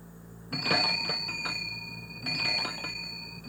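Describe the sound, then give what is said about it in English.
Ice cream truck bells jingle in two bright bursts, each a rapid cluster of high, ringing tones that linger and fade slightly before the next round. No voices are heard. “And the kids running after the ice cream truck really get up and go when they hear those bells.”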